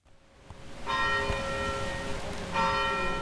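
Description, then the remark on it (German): The bells of the Storkyrka church on Stockholm's old town island ring out loudly in the morning, with rich sustained overtones; a second strike swells in near the end over a steady low hum, with no voices present. “Als die Glocken der Storkyrka auf der Stockholmer Altstadtinsel heute Morgen einen neuen Tag einläuteten”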